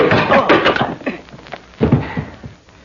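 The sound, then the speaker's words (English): A fist punches someone on the chin with a loud smack, followed by scuffling and a second heavy thump as the body falls to the floor. “I can find the door as easily as my fist found your chin.”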